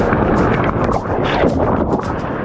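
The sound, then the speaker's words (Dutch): A small but forceful waterfall at a swimming pool pours in a steady, loud, hissing rush of water that fills the whole clip without pause, with no voices over it. “Dat is een stevig watervalletje.”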